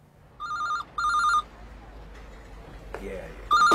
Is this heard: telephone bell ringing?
yes